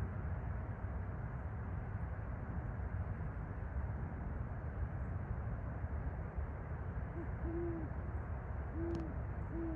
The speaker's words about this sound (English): Great horned owl, beautiful bird.